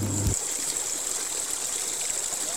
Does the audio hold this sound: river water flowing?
yes